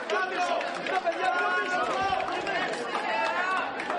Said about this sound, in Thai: ประชาชนชาวกรีกต่างส่งเสียงเชียร์ให้กำลังใจนายกรัฐมนตรีอเล็กซิสซิปราสที่เดินเข้าคูหาลงคะแนนชานกรุงเอเธนในวันอาทิตย์